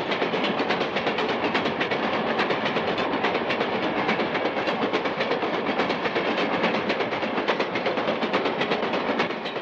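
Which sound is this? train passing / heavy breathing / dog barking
train passing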